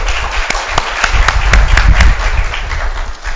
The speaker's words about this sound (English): And while you're clapping for her, I will tell you that I'm the one that bought her Indian clothing.